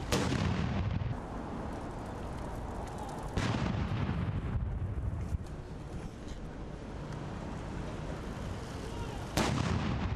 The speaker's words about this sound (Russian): Отряд королевской конной артиллерии доставил в Грин-парк 6 полевых орудий времен Первой мировой войны. Затем из каждой пушки с интервалом в 10 секунд был произведен 41 залп.